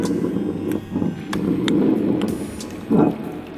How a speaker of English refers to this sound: Where's this water coming from?